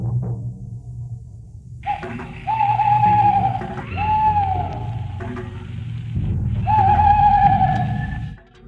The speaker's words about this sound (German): Nur die Eule sah ihm zu und sie rief: Uhu, uhu.